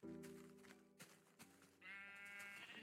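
Sheep bleating with no voices: a long, low wavering bleat opens, a few brief clicks follow, then a higher, nasal bleat carries on to the end, fairly loud.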